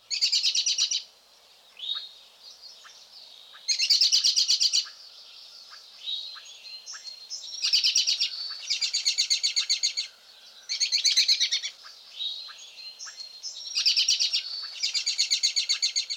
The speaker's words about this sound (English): Obviously, call notes can be important aids to identification. Let's review the call notes of the birds we've just covered. First, the robin's whinny.